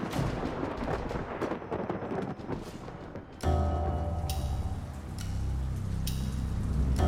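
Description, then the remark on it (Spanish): Heavy rain pours down in a dense, steady hiss of drops. Partway through, the downpour deepens into a louder, rumbling roar with occasional sharp bursts. “La lluvia continúa intensamente”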